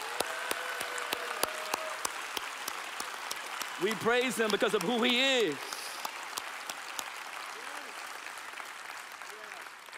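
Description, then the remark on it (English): The audience of McLean Bible Church claps steadily throughout in praise to God at a morning service, a dense, sustained wash of many hands, while a man's voice speaks briefly over the applause partway through. “McLean Bible Church, let's give God this morning a hand clap of praise.”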